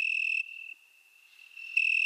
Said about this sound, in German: Das Weinhähnchen zirpt eigentlich in Spanien, Italien oder Südfrankreich.